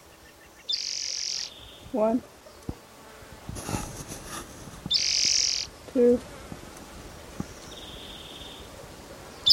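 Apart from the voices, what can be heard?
male bird calling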